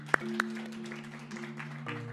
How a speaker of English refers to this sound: So let's give them a round of applause.